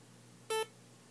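A single short electronic beep from a laptop signalling incoming mail, clear and tonal with bright harmonics, lasting about a sixth of a second over a quiet low hum, then fading back to near silence.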